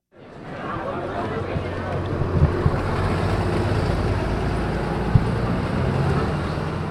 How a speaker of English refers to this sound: The neighborhood surrounding Juneau Douglas High School, Yada'akathle, in downtown Juneau is packed. Cars line the streets, buses fill the roads, and students shuffle down the sidewalks.